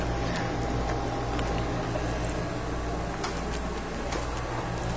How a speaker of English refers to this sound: I'm walking back through my front house, and I'm sure you can hear the air conditioner.